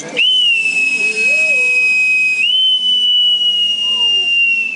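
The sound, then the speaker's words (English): A whistle is blown in two long, steady, shrill blasts, loud, with only a brief break between them and faint murmuring voices in the background. “Hold on, I've got my whistle here.”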